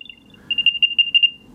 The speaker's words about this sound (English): that's the beeping. The problem with the sound on the AirTag is that thieves will use this to find the AirTag and remove it from your bicycle or from your motorbike or car or backpack with expensive camera gear, for example.